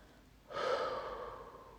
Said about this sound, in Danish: Lige netop. Det er netop, som du skal gøre, blot at fylde dine lunger og give slip. Ånd ud og mærk, hvordan hver eneste celle, muskel og sene slapper af.